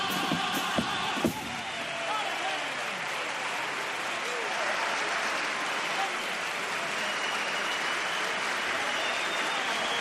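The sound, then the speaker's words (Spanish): A large theatre audience, the stalls almost entirely on their feet for the third time after a third copla, applauds loudly and steadily, a dense continuous wash of clapping that follows a brief burst of music and carries on without pause. “Tercera copla y tercera vez que se levanta el público, el patio de butaca prácticamente al completo de pie.”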